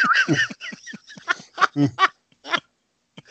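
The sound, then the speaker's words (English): A chicken clucks in a quick run of short, throaty bursts at an uneven rhythm, fairly loud, trailing off into a few sparse clucks with no talking. “And you hear the clucking and then the hissing.”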